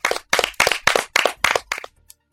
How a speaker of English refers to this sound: Slow clap. That was enthusiastic.